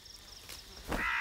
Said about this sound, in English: A cunning crow.